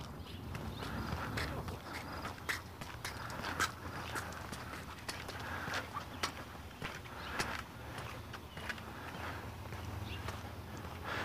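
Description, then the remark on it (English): Shuffling footsteps of a man walking with two dogs in the morning, an irregular run of soft crunching steps over a steady outdoor background hum. “Two dogs and a guy shambling along.”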